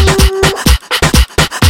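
A dog pants quickly and steadily, about seven breathy huffs in under two seconds, fairly loud with no talking over it.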